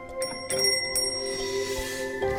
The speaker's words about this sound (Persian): قدم اول، هدف از زنگوله بیدار کردن مراقبه. زمانی که زنگوله صدا بده، مراقبی که از خواب بیدار میشه به آرومی فرد خوابیده رو به سمت تخت خواب هدایت میکنه.